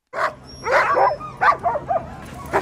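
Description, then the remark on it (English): Excited sled dogs bark and yip in a quick, uneven series of sharp bursts, some overlapping in a noisy cluster, loud over a faint steady hum, as hundreds of sled dogs and mushing fans fill the streets of downtown Anchorage, Alaska, for the start of the Iditarod Sled Dog Race. “Every March, the streets of downtown Anchorage fill with hundreds of sled dogs and mushing fans outfitted in their finest furs.”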